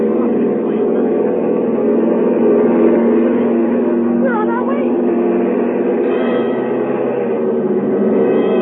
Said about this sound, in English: The plane throbbed against dead quiet. Warm and stuffy in the cabin despite the hissing ventilator.